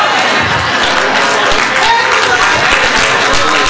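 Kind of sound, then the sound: crowd, audience applauding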